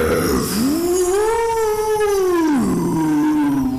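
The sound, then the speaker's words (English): Dogzilla, a giant dog, gives a single drawn-out howl while breathing frosty breath into the clouds; the howl rises, holds a wavering pitch for about two seconds, then slides down and trails off, heard clearly over a steady background hiss. “The freed snow ghosts fly up as Dogzilla breathes a frosty breath into the clouds, howling and aiming its snout with purpose as it seems to build a massive ship of ice.”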